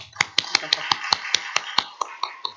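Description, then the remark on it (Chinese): Steady rhythmic clapping, about a dozen sharp, even claps in quick succession at a brisk beat, fairly loud, with a faint murmur of voices beneath, as the audience applauds all fathers. “我们就一起给所有的父亲鼓掌。”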